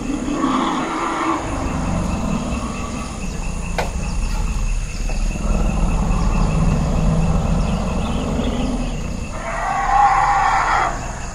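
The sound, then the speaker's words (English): A chaotic chorus of an elephant herd circling, bellowing, rumbling and trumpeting together during a mating, loud and continuous, with calls overlapping in waves and a shrill cry rising near the end, over a steady insect-like hiss; recorded by an acoustic monitor. “There was a tremendous uproar of great circling of elephants.”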